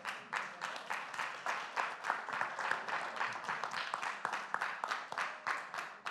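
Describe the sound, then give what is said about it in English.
An audience applauds steadily after a sermon for about six seconds, a dense, crackling wash of many hands clapping at once, holding a fairly even loudness throughout with no voices on top. “Jesus, I give you glory because this is your truth and your work that people are clapping for.”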